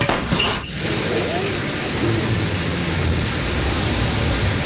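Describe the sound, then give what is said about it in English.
A Blue Origin New Shepard rocket engine roars at ignition and launch as it clears the tower on its way to space: a dense, unbroken rush of rumbling, hissing noise, loud and steady from start to finish, with a slight dip early on. “Command engine start.”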